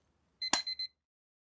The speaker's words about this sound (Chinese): 这是一个闹钟，我把闹钟关掉。